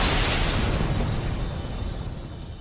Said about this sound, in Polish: I jebut, jak co tydzień, proszę ja was, pieprznęła nam eksplozja